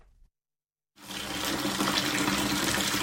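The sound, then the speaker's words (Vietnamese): Water gushes steadily from a tap fed by a full storage tank on Bạch Long Vĩ island district, Vietnam, a broad hissing rush that starts abruptly after a brief silence and keeps flowing strongly to the end, with no voices. “Vừa xả nước từ bể chứa đầy ấm áp”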